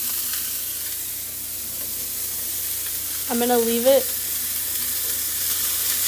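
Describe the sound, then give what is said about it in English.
A steady sizzle of a raw meat patty, the first one put into the pan, frying and crackling throughout, with a person briefly speaking over it partway through. “Okay, so that's it sizzling there.”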